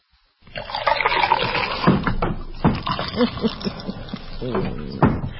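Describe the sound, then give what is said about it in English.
A cold drink is poured, a steady splashing, gurgling stream with bright fizzy crackle that runs for several seconds, with some voice-like sound blended underneath. “Yes, pour yourself a cold one and take a listen to this and let me know what you think.”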